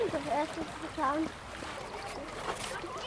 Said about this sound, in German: Hier fließt so ein kleiner Bachlauf durch.